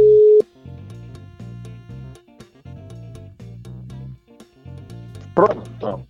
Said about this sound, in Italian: proviamo a chiamarlo, vediamo. Proviamo a vedere se risponde. Se risponde, vediamo un po'. Adesso squilla.